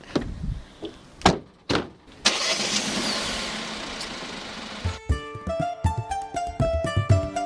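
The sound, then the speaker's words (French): A few sharp knocks like car doors shutting, then a car engine turns over and roars steadily, giving way to a brighter, tonal whine near the end, as the car sets off for the castle of Bouillon, a small town in southern Belgium near the French border. “On va d'abord se rendre au château de Bouillon, une petite ville d'un peu plus de 5000 habitants, au sud de la Belgique, à la limite de la frontière avec la France, en voiture.”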